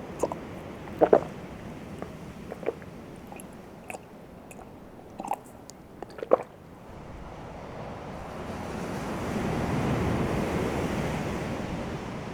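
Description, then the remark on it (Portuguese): A steady wash of surf that swells into a louder, hissing rush of a wave breaking toward the end, with a few scattered clicks and taps early on and no voices. “Zadok, por que não para de olhar para o mar?”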